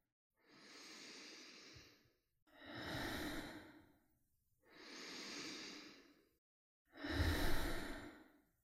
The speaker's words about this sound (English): Breathing in life, breathing out the past, breathing in peace, breathing out pressure.